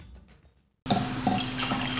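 After a brief near-silence, wine starts pouring steadily into a glass, a continuous gurgling splash with a faint ringing tone, with no voices.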